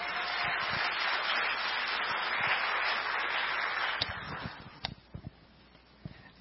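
A crowd applauds steadily to welcome a speaker, a dense wash of clapping for about four seconds, then it thins out into a few scattered, isolated claps before fading.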